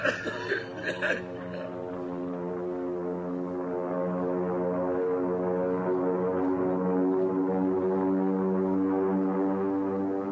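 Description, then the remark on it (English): A deep, steady drone of the engines of eight army bombers off Bayonne, New Jersey, fills the air, loud and continuous with a throbbing, harmonic hum, after a few brief choppy bursts at the very start. “Army bombing plane V-843 off Bayonne, New Jersey. Lieutenant Vogt, commanding 8 bombers.”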